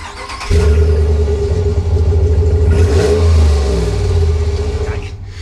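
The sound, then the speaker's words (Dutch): A car engine fires up with a sudden loud catch after a brief crank, then settles into a deep, rumbling idle with a swell of revving in the middle before easing back down. “Dit is wel even een andere beleving als je ergens op een bouwplaats of op een klus je auto weer aanzet en naar huis rijdt.”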